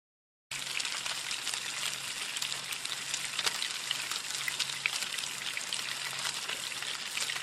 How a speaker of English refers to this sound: Nothing says Minnesota cuisine like the sizzle of fresh lake-caught fish in a cast-iron pan, maybe served on a bed of wild rice.